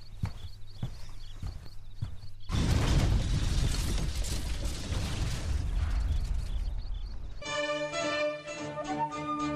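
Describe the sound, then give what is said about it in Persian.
Sparse mechanical ticking gives way to a sudden, loud explosion, a second and stronger blast that destroys part of a house, its roaring rumble and crashing debris filling several seconds before fading into a ringing, tonal drone. “انفجار دوم قوی تر بود. قسمی که قسمتی از خانه ویران شد و من روی زمین افتادم.”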